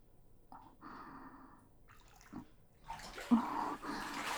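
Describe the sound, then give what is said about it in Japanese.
Water sloshes and splashes in a bathtub, with a few soft movements at first, then a louder, sustained burst of splashing and dripping as a person gets out of the bath. “あれ、もう上がるの？もうちょっと一緒にゆっくりしようよ。”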